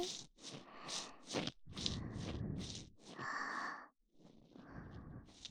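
Intimate, warm breaths blown right at the listener's ear, a series of soft airy puffs and longer exhales in an uneven rhythm, fairly loud and with no talking.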